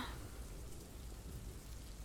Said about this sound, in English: But, it appears that the sky is leaking. I think it's more than a little drizzle.